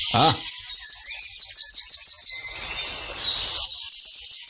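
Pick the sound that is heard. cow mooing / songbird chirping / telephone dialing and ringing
songbird chirping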